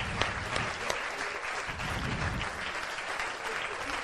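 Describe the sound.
Steady audience applause fills the whole stretch, a dense wash of many hands clapping at an even level, with a few voices faintly mixed in beneath it.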